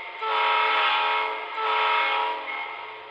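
A home-built model train, getting ready to roll through a small model town, sounds two long, steady whistle blasts back to back, loud, with a bright, reedy chord and no voices around it.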